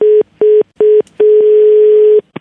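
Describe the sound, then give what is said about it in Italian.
A telephone line tone after a woman hangs up on the caller: three short steady beeps, then a long unbroken tone, ending with a couple of brief clipped bursts. Loud, clear and with no voices. “No, la signora è un po' scortese, sbattermi così il telefono in faccia.”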